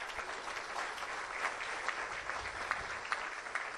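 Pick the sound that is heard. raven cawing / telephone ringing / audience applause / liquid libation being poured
audience applause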